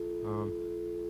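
A telephone dial tone hums steadily at a low, even pitch throughout, briefly overlaid by a short voiced sound near the start.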